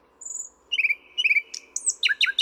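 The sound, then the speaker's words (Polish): A nightingale sings alone: a high drawn-out whistle, then repeated rapid chirping phrases that grow louder and more varied, with verses resembling common nightingale song, ending in bright descending notes over faint background hiss. “W śpiewie niektórych osobników przeplatają się zwrotki podobne do głosu Słowika Rdzawego.”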